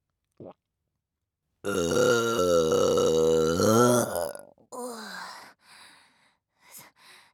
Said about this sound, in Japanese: 早速出てきましたね。タイムラグなしにザーメンゲップ出るなんて、早速胃薬の消化機能が働いているのでしょうか。